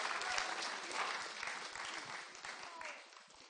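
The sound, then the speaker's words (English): A crowd claps steadily for the kids for a few seconds, a dense, even patter of many hands that stays fairly loud before easing off toward the end. “Okay, let's give the kids a really big clap.”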